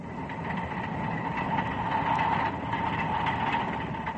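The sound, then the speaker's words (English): An Autocarril, a small rail car with a limousine body on a small locomotive chassis, a cow catcher and steel wheels, rolls steadily toward Oruro. Its engine drones with a constant mechanical hum and the wheels give a faint metallic ring, unbroken throughout. “The Autocarril has the body of a limousine and the chassis of a small locomotive, with a cow catcher and steel wheels.”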